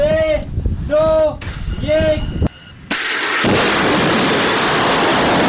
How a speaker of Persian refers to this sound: مرحله نهایی رزمایش موشکی سپاه پاسداران روز سه‌شنبه برگزار شد. عملیات شلیک موشک عماد با رمز مقدس یا ابوالفضل العباس.